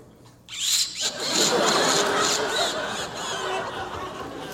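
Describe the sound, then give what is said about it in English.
A voice imitates a car engine starting: a sudden sputtering crank catches into a loud, steady revving roar with high whining overtones, lasting about four seconds with no speech. “Then I went down and started up the car.”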